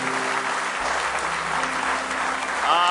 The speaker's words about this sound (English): All right, give him one more hand clap of praise if you love him.